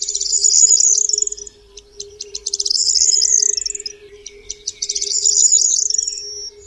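A corn bunting sings three times in October, each song starting with scattered ticking notes that speed into a dry, jangling trill. The songs are loud, over a faint steady hum.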